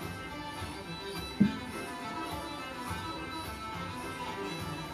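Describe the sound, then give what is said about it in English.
An IPA beer is poured into a glass as a steady, soft gurgling hiss with fizzy texture, broken once early on by a small clink. No one speaks. “Hopefully you can hear this pouring.”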